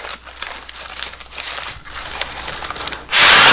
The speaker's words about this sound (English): But at the beginning of this record, folks, is a sound like, I guess it's somebody blowing up a paper bag and popping it. Yeah, there's something about a bag. It sounded like a bag. And here it comes.